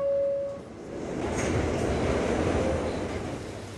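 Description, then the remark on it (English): A New York City subway train heading out to East New York rumbles along steadily from inside the car. A brief high squeal at the start comes before the loud, continuous clatter and roar of the ride fills the space. “I'm going to take it out to East New York on the subway.”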